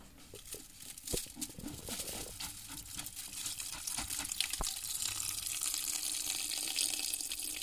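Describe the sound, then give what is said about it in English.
Soaked herbs are poured into a large stainless steel press, a wet, splashy slide of sodden material with scattered sharp clicks, settling into a steady hiss of dripping and trickling water. “Stainless steel press. The herb is poured into this press.”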